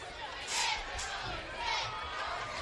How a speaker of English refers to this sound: So kind of a stunned crowd at Fairview. This one's been back and forth.